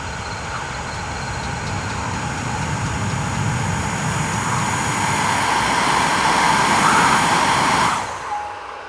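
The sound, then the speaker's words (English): Steady, roaring wind blowing against a mast, with thin, wavering whistles from the taut wires on the mast riding above it as they whistle and hit against the mast, holding for several seconds before cutting off abruptly near the end. “Whistling noise, and I also hear the wind blows against the mast and the wires on the mast whistle and hit against the mast.”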